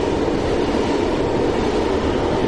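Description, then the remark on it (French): A train rolls along the Ligne de Sceaux railway line, a loud, steady rumble of wheels and engine noise filling the whole stretch with no pauses and no voices. “on m'a envoyé compter sur la ligne de Sceaux, donc où nous sommes aujourd'hui, les boîtes qui servaient à localiser les trains.”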